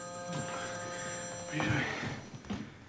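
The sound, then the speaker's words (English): A telephone bell rings steadily with a bright metallic trill, moderately loud, while faint muffled movement and brief vocal sounds occur underneath as a woman heads to the phone. “She heads to the phone.”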